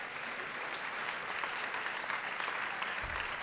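Steady, dense applause from a live debate audience fills the whole stretch, a continuous crackle of many hands clapping at once, fairly loud, with no voices over it.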